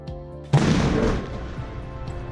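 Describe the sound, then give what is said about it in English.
A single loud explosive blast against two tested laminated glass panels (1.1 and 1.8 meters high, 31.52 millimeter PVB laminate) erupts suddenly after a brief low rumble, its broad roar decaying slowly into a lingering reverberant wash; the glass remains intact. No voices are present. “Using 31.52 millimeter PVB laminate, the glass remains intact after the explosion.”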